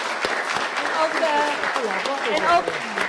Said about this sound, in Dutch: Van harte gefeliciteerd. Dan bent u ook bij deze. Ja, u mag best even klappen doen.